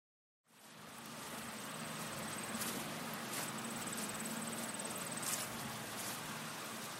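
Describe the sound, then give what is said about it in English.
A soft, continuous drone of bees buzzing among the trees of an apple orchard in autumn, steady and fairly faint, layered over a hissy open-air background with a thin high whine and no voices. “There's a crisp breeze in the air, the sound of bees buzzing happily amongst the trees of an apple orchard.”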